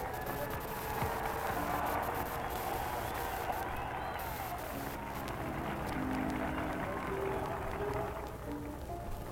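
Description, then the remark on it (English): A vast outdoor crowd cheers and applauds to greet the President as he takes his seat at a ceremony, in a steady, dense roar, clapping and shouting blending into a continuous wash of sound that holds its loudness throughout. “the 151st Infantry Band has played the Star Spangled Banner with the President and the members of his party at attention, he moves forward and takes the chair which has been provided for him here and receives the greetings from this enormous crowd.”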